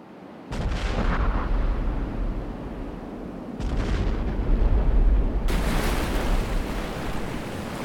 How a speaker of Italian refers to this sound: Dopo pochi minuti, due esplosioni in entrambe le fiancate del mercantile svedese aprono dei grandi squarci ed il mare inizia a riempire la nave.